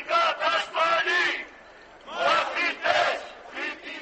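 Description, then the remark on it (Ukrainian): A loud crowd of protesters clashing with police outside the parliament building in Athens, Greece, shouts and chants in rhythmic bursts of many voices, dropping to a brief lull midway before the chanting surges again. “Після вчорашніх вечірніх, а потім нічних бійок біля будівлі парламенту в Афінах, де й було зроблено цей запис”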